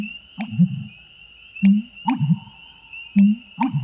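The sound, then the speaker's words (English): A marsh heron, a shy member of the heron family, calls in a marsh among cattails on a spring morning: a deep, booming call repeating in low, gulping, hollow-sounding phrases about every one and a half seconds, over a thin, steady high-pitched tone and faint clicks. “One fine spring morning, as you walk near a marsh, you are stopped in your tracks by a loud, reverberating call, with a cadence that seems lifted from an old cartoon soundtrack.”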